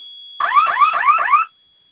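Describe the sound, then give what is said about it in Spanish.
An electronic alarm, set off by holding down two flame-symbol buttons on its left side, gives a loud burst of rapid rising whoops, about four repeating sweeps in just over a second, then cuts off abruptly into silence. “Listo, los vamos a mantener apretados hasta ¿Los que dos? suene la alarma.”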